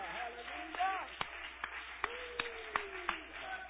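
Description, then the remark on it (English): A church audience clapping hands to the Lord during a morning service, in a steady, evenly spaced rhythm, sharp claps about every third of a second, with a voice calling out and singing over them. “Can somebody clap your hands to the Lord this morning?”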